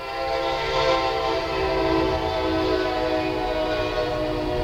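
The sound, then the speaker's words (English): A train horn blares steadily and loudly as a train rolls by, its sustained chord ringing over the rumble of the cars, with no one speaking. “That train means my clock, my phone is about to go nuts”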